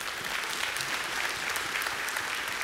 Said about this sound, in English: Let's clap for that.